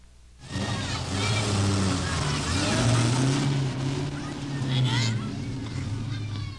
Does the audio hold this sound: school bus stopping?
yes